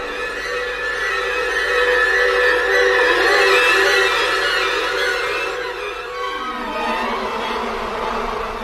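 A dense, steady drone of bees buzzing fills the whole stretch, a layered hum that wavers slightly in pitch and stays fairly loud, with no voices.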